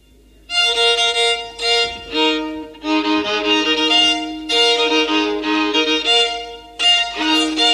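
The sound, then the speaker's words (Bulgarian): A violin made of pear wood plays a lively solo melody, bowing a run of bright, sustained notes with brief pauses between phrases; no one speaks over it. “А моята цигулка, макар и от круша, слушайте как звучи.”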